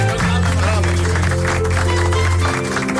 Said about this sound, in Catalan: Aplaudiments.